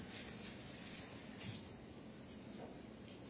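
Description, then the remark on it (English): A soft, continuous papery rustle fills the space as many Bible pages are turned at once across an audience turning to Matthew chapter 9, a low shuffling texture with no one speaking. “I heard a preacher say the other day, and I've said it before, but there's nothing like standing up as a preacher and hearing pages turn.”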